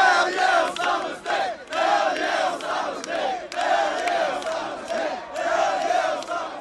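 A large crowd of young voices, students from area colleges who emptied their dorms, cheers and shouts together in a continuous, boisterous roar, with rising whoops and chant-like yells swelling in waves, as they dance in the streets celebrating the news that Osama bin Laden had been killed.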